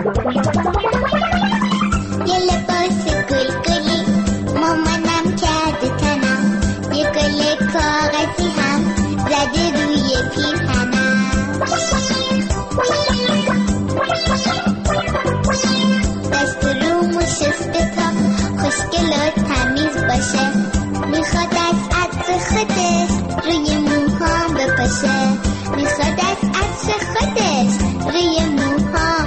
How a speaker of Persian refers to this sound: الان داری قلب معصوم بچه ها رو داری آلوده میکنی دیگه با این موزیکا. نکن دیگه، بقیهش خودتون برین تو خونه های خودتون گوش کنین.